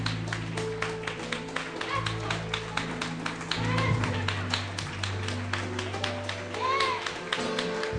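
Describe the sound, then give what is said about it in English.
An audience claps hands in praise to God, a dense stream of overlapping claps over a steady low organ-like drone, with voices murmuring and calling out underneath. “Let's give God another hand clap of praise.”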